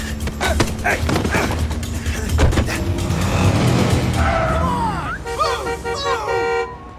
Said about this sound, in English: He ran, I pursued. Whole thing turned into an awesome car chase. NYPD!